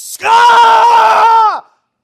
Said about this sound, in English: And then, through the screaming and the pain and the torment, you see him pull another one from the fire.